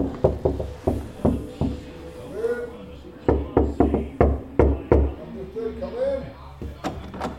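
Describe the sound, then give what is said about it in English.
Repeated sharp knocks on the door of Room 18, on an internal corner with no windows. The knocks are loud and come in uneven bursts of several raps with short pauses between, while faint muffled voices murmur underneath. “Do you want to knock?”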